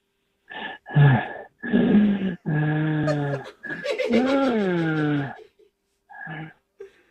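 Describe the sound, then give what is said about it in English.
A voice practising breathing exercises on a voice message makes a run of heavy, exaggerated breaths, about five loud voiced bursts with rising and falling groan-like pitch, then two short faint puffs. No words are spoken. “Hey, it's just like the yoga breathing that we do, right?”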